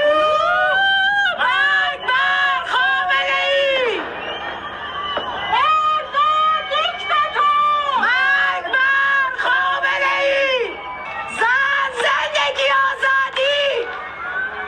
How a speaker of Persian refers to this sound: همزمان با تحویل سال در بسیاری شهرهای ایران از جمله تهران فریاد اعتراض مردم هم از پشت بام ها یا پنجره های خانه هایشان شنیده شد. صدایی از شهرک چیتگر.